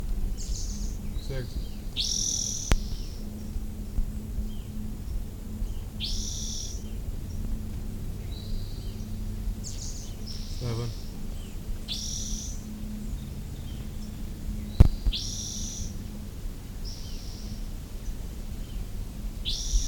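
A rufous-headed towhee, seemingly a male missing its tail, gives short, high chip calls, repeated in irregular bursts over a low, steady hum, with a couple of sharp clicks between them.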